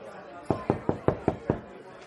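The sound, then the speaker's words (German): Six quick, evenly spaced, sharp knocks on a door by someone standing outside it, with a faint murmur of background voices underneath. “Ich weiß nicht, ob du Besuch erwartest, aber da steht noch jemand vor der Tür.”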